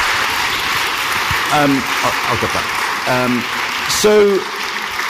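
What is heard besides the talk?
audience round of applause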